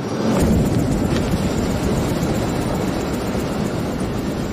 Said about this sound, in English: The three men get out of the helicopter and pick up their bags. They look back at the pilot as he prepares to take off.